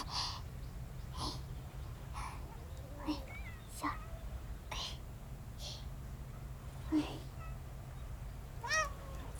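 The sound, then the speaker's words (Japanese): Several cats mewing and crying in short bursts at feeding time, some high and drawn out, over a steady low hum, with soft breathy sounds between calls; one clear meow rises near the end. “そうそう、泥臭い子はマスターについていけんけん、出遅れた子に餌をあげればきっとみんな仲よお腹いっぱいになれるでしょ。”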